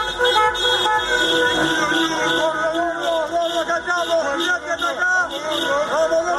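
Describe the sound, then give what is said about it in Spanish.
Loud car horns honk continuously and overlap in a dense, sustained chorus, with a crowd's shouting voices mixed underneath and traffic rumbling. Lines of cars and fans outside the Clínica Los Olivos hospital in Buenos Aires, Argentina, where Diego Armando Maradona is hospitalized, cheering for his recovery. “Porque hileras de coches, aficionados que acampan, pancartas, rezos y gritos animando a la pronta recuperación del Pelusa Maradona.”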